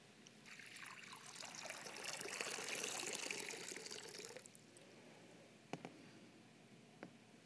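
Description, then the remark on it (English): Water pours steadily for several seconds with a bright splashing trickle during a Christian worship service, then eases off into quieter dribbles and a couple of soft drips. No one speaks. “Lord Jesus, let these waters remind us of the waters of our baptisms, through which you have claimed us as your covenant people, and of your cleansing blood, which washes away our sin.”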